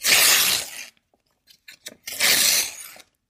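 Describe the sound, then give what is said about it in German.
Two long, loud ripping sounds as the printed outer paper layer is torn from a milk carton, broad and raspy, separated by a pause filled with a few small crackles and taps. “Dann kann man nämlich die erste Schicht, da wo so draufsteht, Milch von der glücklichen Kuh, die kann man da so abreißen.”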